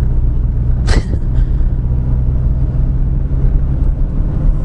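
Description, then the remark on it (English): A car drives over railroad tracks, its steady low engine and road rumble broken by a sharp clunk and a softer second bump close together, heard from inside the vehicle. “I always feel so sad when I have to take my car over the train tracks.”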